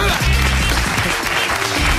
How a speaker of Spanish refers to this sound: ¡Un aplauso!